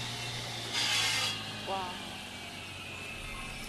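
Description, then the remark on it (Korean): Machinery running in an alley of precision-machining and mold workshops drones with a steady low hum, broken by a loud, harsh hissing burst lasting about half a second; a person briefly exclaims just afterward, and the hum continues. “와, 지금 막 기계 돌아가는 소리 들리시죠?”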